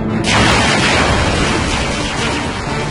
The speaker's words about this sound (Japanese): 海戦の火蓋はリッテンハイム軍の主砲正射によって切って落とされた。